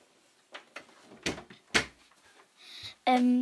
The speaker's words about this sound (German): Und ich mach schnell die Tür zu.